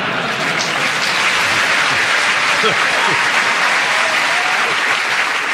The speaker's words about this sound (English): Well, that well-deserved round of applause was because you went for 49 seconds, but...